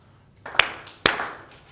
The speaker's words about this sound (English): Very good. Excellent. Give yourself 2.5 claps.